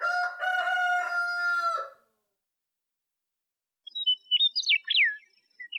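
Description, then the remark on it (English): A rooster crows once, loud, a strained two-second call. After a brief silence, a small bird twitters in quick, high chirping bursts. “In the barnyard, only one bird gets the honor of announcing the new day and waking you up.”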